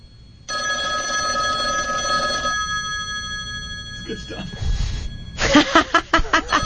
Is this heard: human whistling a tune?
no